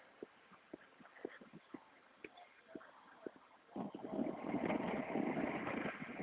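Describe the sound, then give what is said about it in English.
Outdoors in the morning, many doves coo in soft, low, repeated notes at a steady rhythm. Partway through, a louder broad rush of passing traffic rises and covers them. “The doves are out in force, cooing away this morning.”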